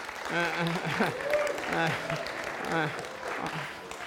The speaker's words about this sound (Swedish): Vi ger Jesus all ära. Ska vi ge honom en liten applåd mitt emellan här?